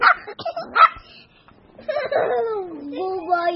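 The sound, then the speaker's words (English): A new puppy lets out a few sharp, high yips and barks, followed by a longer, wavering whiny yelp that rises and falls before trailing off. “had a cuddly new puppy”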